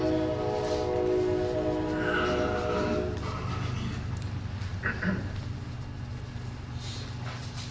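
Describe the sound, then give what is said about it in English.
A single loud, sustained train horn blast lasting a couple of seconds, followed by the steady low rumble of a passing train with faint squeals and clatter. “He's only going to honk once, is that it?”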